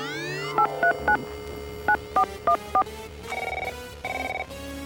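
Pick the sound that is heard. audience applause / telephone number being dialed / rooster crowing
telephone number being dialed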